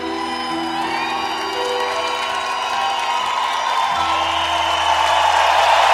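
A large audience applauds and cheers steadily, a dense, loud wash of clapping mixed with whoops and shouts that swells slightly toward the end, with faint lingering tones underneath.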